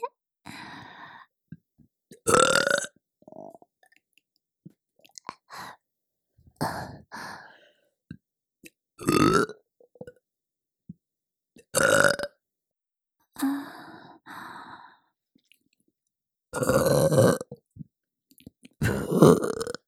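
A string of loud milk burps, about seven of them, spaced a couple of seconds apart with quiet gaps between; some are short gulps, others drawn out and throaty. No talking.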